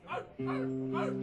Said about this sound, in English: The dog begin to bark. The wolf begin to howl.